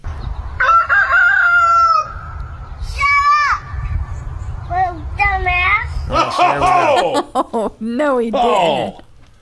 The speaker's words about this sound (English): Many people ask, does your grandson like the rooster crowing early in the morning? Here's your answer.